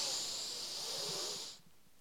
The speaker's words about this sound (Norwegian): Men vi starter med å puste sånn som vi pleier. starter vi med å puste godt inn med nesa.